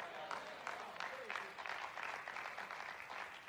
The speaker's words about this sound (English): Wow, I got claps behind the fire aisle. That's amazing. Thank you.